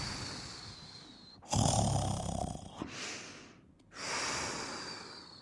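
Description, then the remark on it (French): Deep, rumbling snoring of a bear asleep deep in the woods: three long, loud breaths, each rasping snort followed by a brief pause. Heavy, with no talking. “Au plus profond des bois, la lune sourit, car l'ours ronfle si profondément qu'elle voit le tipi danser au rythme de ses soupirs.”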